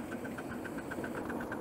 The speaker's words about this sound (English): And we're going to put water in the boiler while we're running. That's it picked up. Right, so we're now feeding water into the boiler on the move. We are uphill here and a curve, so a little bit of steam pressure.